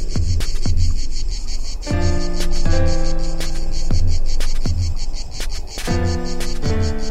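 A steady, high-pitched cicada drone buzzes throughout, layered with sharp rhythmic percussive hits and sustained musical tones. No one speaks.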